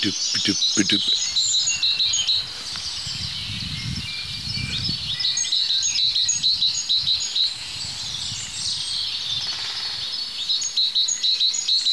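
A great tit sings bright, high, repeated two-note phrases in short bursts, with other birdsong and a steady insect-like hiss running underneath.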